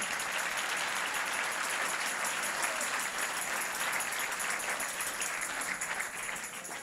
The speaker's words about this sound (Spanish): Sí, ese es el aplauso.